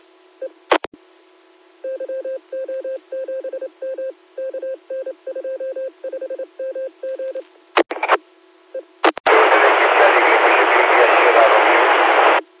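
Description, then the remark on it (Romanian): A mobile phone is handled with a few clicks, then a quick series of touch-tone dialing beeps in rapid bursts, followed by a steady burst of loud hiss-like noise. “Așteaptă puțin, cât să deși telefonul, că nu am o transită telefonul așa.”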